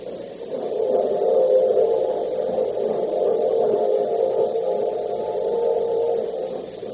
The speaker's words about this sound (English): So now, the train is leaving the station, and Oriane isn't on it.